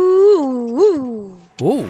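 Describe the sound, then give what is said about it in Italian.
A voice imitates howling wind with a long, wavering moan that rises and falls in pitch, swelling twice, dipping briefly, then rising again in a final loud swoop, as a riddle on Radio Punto Nuovo whose answer is the wind. “Soluzione all'indovinello è il vento.”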